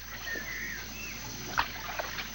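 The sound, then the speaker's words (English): Water trickles and laps steadily at a riverbank while a few sharp knocks and bumps sound as a small, leaky, flat-bottomed rowboat is untied, with a faint whistle-like tone early on. “Jimmy walks down to the bank as Peter unties the boat.”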